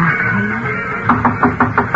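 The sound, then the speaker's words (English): After a moment of quiet room tone, someone raps on a door about six times in a quick, steady rhythm, the knocks fairly loud. “Never mind the kiss. Answer the door.”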